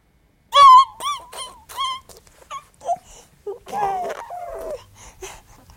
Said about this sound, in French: Un bébé qui appelle, il appelle avec son corps, il appelle avec son cri.